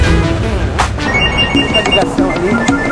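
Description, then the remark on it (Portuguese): Two telephones ring nonstop at a waste pickers' cooperative under the Glicério viaduct in central São Paulo, repeatedly and overlapping, with bright, rapid bell-like trills over a busy background of music or activity, fairly loud. “Dois telefones que não param.”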